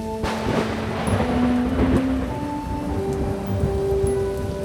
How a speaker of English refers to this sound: When the storm showed up, the other plants bent their heads.